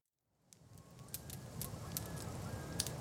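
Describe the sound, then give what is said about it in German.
A campfire crackles steadily, with a low roaring rumble of flames and a handful of sharp pops scattered throughout. It fades in at the start and stays fairly quiet, with no voices. “So, das Feuer ist jetzt gut im Gang.”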